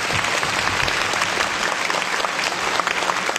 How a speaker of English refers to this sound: Let's welcome Mr. Solario with a big round of applause.